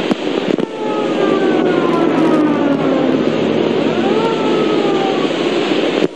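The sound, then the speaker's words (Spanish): An ambulance siren wails through a dense roar of traffic or engine noise at the gates of the hospital in Ezeiza during a shooting with many wounded, its pitch sliding up and down as it passes steadily and loudly. “El paso de las ambulancias es permanente.”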